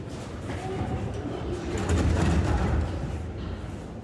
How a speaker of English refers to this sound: Underground metro stations is where many people hide. Young and old stand patiently in line for food served by volunteers.